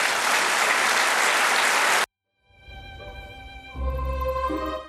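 An audience claps for a representative of the Anadolu Group who has been asked to stand. The dense, steady burst of applause lasts about two seconds, then cuts off abruptly. After a short silence, sustained tonal music-like sounds follow.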